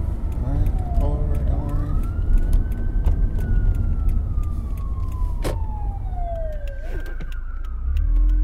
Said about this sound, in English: What is this siren about? Where's the siren? Oh, shoot.